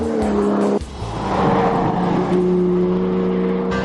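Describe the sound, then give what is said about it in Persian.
A 2013 Porsche 911 Carrera C4 engine revs loudly, a deep steady growl that dips briefly, then climbs back and holds a sustained, throaty note. No one speaks. “ولی اکنون جواب ما به این سوال پورش سری 911 و بدون تردید پورش 911 کررا C4 سال 2013 است.”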